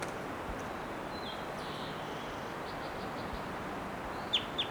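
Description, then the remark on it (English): A wild bird, just collected and numbered bird 692, gives thin, high chirps over steady background hiss, a quick run of faint notes, then two sharper, louder calls right at the end. “Here's that wild one again, giving some really loud calls.”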